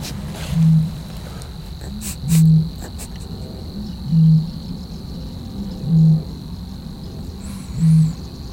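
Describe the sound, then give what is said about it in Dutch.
Five deep, hollow booms of a bittern repeat at a slow, steady pace, each low hoot swelling briefly, over a constant thin whine of insects. “Van roerdomp tussendoor.”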